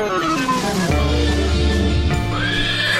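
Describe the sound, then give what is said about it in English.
A horse, Glittermane the magical horse, whinnies loudly, one drawn-out, quavering neigh that fills the few seconds, with steady tonal sounds sustained underneath. “It's me, Glittermane, the magical horse, here to take you on an adventure.”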